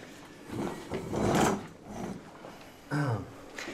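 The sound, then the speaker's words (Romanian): A wooden chair is pulled across a hard floor in a rough, drawn-out drag lasting a couple of seconds, followed by a shorter creaking scrape as it settles. “trage-mi un scaun aici, te rog.”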